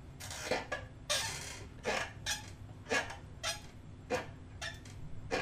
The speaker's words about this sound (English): You guys keep hearing my chair creaking. I got to get a new chair. My microphone is picking up everything today. It's great. It sounds wonderful, but you're hearing this, aren't you?